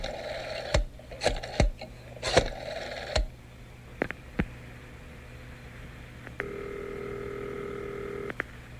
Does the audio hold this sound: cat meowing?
no